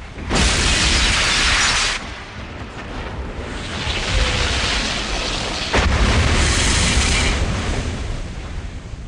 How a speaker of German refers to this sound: Und noch dazu wirst du belohnt durch diese Videosequenz der Explosion der Kathedrale.